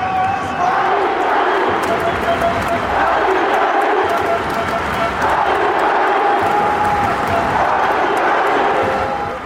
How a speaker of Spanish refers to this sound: Salta la grama el equipo para hacer los ejercicios de calentamiento. Palma Seca los recibe con un apoteósico aplauso.